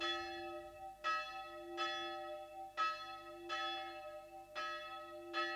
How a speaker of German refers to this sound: Auf dem schmalen Friedhof vor der ungarischen Provinzstadt Sopron läutet die Totenglocke für den alten Laszlo Bozsó. Gestorben. Vor 3 Tagen. Sie läutet, dass der Pfarrer jetzt das Haus des Totengräbers verlassen hat und auf die Kapelle zugeht.